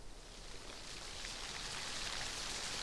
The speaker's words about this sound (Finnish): Illalla ja yöllä sade piiskaa Pietaria, mutta aamulla sade on ohi ja itätaivalla näkyy vain sade- ja pilvialueen takareuna.